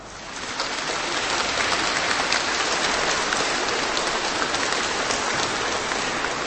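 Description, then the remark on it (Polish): Sustained applause from a crowd joining in greetings to Archbishop Andrzej Dzięga, Metropolitan of Szczecin-Kamień, a dense wash of many hands clapping that swells in within the first half second and holds steady and loud throughout, with no voices on top. “Pozdrawiamy także księdza arcybiskupa najpiękniej, jak tylko potrafimy, i dołączamy także nasze oklaski.”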